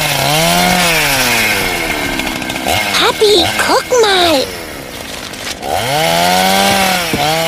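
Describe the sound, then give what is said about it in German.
A chainsaw roars and whines as a man cuts down a sick old oak tree in Mr. Hinkel's garden, its engine pitch rising and falling in long sweeps; a child's voice speaks briefly in the middle as the saw dips. “Mr. Hinkel, wieso sägt der Mann da drüben ihren Baum ab?”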